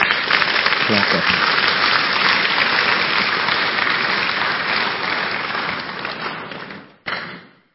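An audience breaks into sustained, dense applause, loud and steady for several seconds before fading out, with a brief last burst of clapping at the end.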